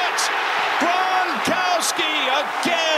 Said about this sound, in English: If that sounds like actual human cheering, a rarity this NFL season at fanless stadiums, it was. The NFL allowed 25,000 fans last night.